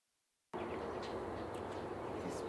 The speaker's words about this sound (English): Stuff is trains on its way. Trains on its way, and they're hammering.